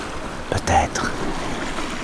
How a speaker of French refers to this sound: Face à moi, ces vagues qui claquent contre les falaises